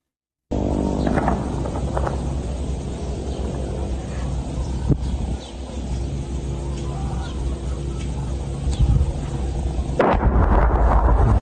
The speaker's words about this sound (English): That's not a plane, that's a mortar strike. That's what that is, all right? And you might think that there is. There could be a drone overhead and everything else, but I want you to watch right where this mortar ends up landing too.